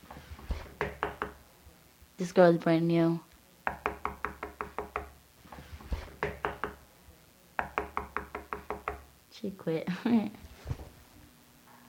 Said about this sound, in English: She's knocking on the wall. She's really, the girl next to me, she's still awake and she's bored. What we do is we knock on each other's wall, hoping that the person next to us will knock back.